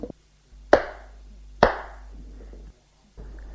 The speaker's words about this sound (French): Il la gifle.